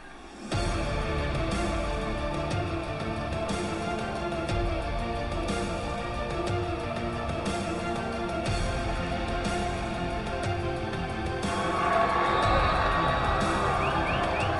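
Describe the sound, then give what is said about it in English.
A baseball stadium crowd of West Michigan Whitecaps fans getting onto their feet during a t-shirt toss, cheering steadily, a dense, continuous roar of many voices that swells louder near the end with some higher whoops. “This raucous crowd for the West Michigan Whitecaps getting onto their feet, a t-shirt toss, and they're hoping a comeback in store.”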